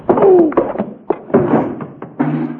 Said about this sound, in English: you knocked him out.